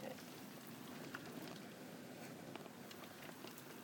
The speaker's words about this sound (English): Well, I chose the right time to start recording. The rain's got worse.